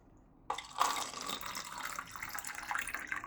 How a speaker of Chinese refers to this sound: 老师你先坐着，我给你倒杯水。